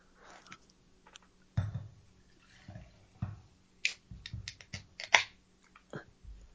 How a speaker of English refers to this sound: Definitely over-poured the bottle.